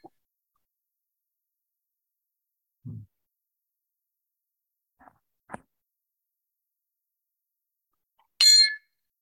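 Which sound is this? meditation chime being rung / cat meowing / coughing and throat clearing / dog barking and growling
meditation chime being rung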